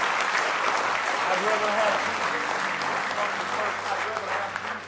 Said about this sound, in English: Let's give him one more hand clap of praise in the house of the Lord tonight.